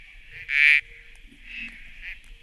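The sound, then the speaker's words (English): A small brown ground frog, only up to about 3 centimetres long and living in leaf litter and on the ground, gives a loud, nasal, buzzing call, followed by two softer, shorter calls over a faint steady hiss. No one speaks. “And they're little brown frogs and they live in leaf litter and on the ground, so they're pretty tough to find.”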